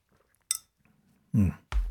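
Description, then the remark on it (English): A sharp clink of a cup or glass, then a brief slurping sip followed by a heavier thunk as the drink is set down. No one speaks. “Let me get a sip here.”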